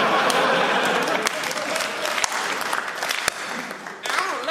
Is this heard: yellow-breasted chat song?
no